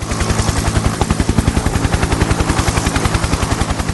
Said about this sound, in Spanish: ¡Vamos al helicóptero!